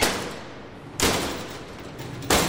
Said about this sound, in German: Ganz schön geräuschvoll geht es zu bei der Firma Wechsler Feinfisch in Erftstadt bei Köln. Scheppernde Ofentüren, quietschende Metallschlitten an Laufschienen unter der Decke.